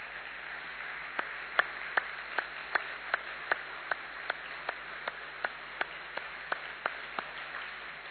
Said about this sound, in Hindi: तो एक बार अच्छी तरह से सभी तालियां बजाएंगे, अच्छी तरह से बजाएंगे।